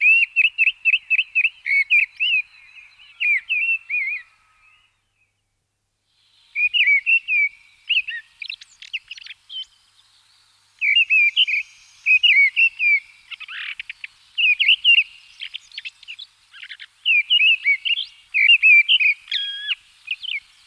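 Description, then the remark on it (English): A mistle thrush sings loud, clear, fluting phrases in short bursts separated by brief pauses, alone, with fast chattering notes woven between the whistled runs. “The song of the mistle thrush sounds like a blackbird gone wild.”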